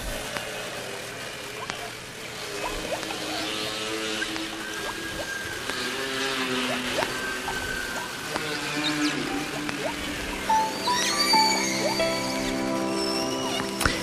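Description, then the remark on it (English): Whale calls: overlapping moaning, tonal cries with rich harmonics, some sliding upward into high whistles near the end, over a steady bubbly, fuzzy underwater hiss. “I'm just sitting here enjoying the bubbliness and fuzziness of the whales.”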